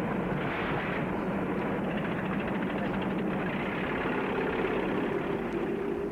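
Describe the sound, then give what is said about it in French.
A van's engine runs in a steady, unbroken drone, a loud low rumble with a broad hiss over it that holds at an even level throughout, with no voices. “Le bruit de la camionnette.”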